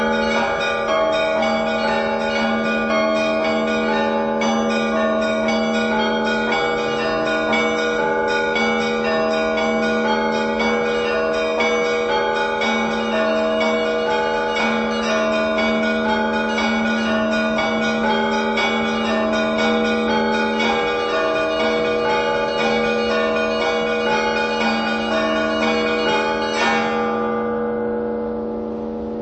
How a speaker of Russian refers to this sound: На каждой колокольне каждый звонарь звонит согласно своему сердечному устроению. И в основном звон это всегда более такое импровизаторское начало имеет в себе.